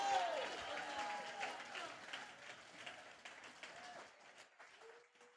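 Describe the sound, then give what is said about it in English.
A church audience claps their hands and shouts to God for about 15 seconds, in a dense, continuous wash of applause and raised voices that stays loud, then gradually thins and softens toward the end. “Go ahead, take 15 seconds, clap your hands. Shout unto God.”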